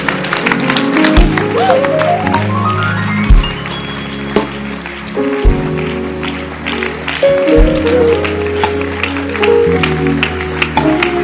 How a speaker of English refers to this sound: Come on, your hand clap should be far better. Your hand clap should be far better. Clap your hands properly.